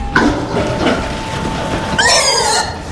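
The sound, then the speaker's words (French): Pigs squeal in a shed on a farm in Sweden where they are kept free-range on straw: a brief shrill cry at the start, then a longer, louder squeal near the end, over a steady background hum and scuffling. “Oui, c'est là que nous avons nos cochons qui sont totalement en liberté.”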